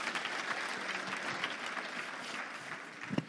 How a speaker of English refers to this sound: Okay, can we give a round of applause to our incredible helper here?